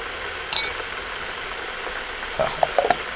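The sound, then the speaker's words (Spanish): A stovetop coffee maker hisses steadily on the burner, a soft, continuous rush, with a sharp metallic clink early on and a few lighter clinks near the end. “Tarda un poquito, ¿no? La cafetera.”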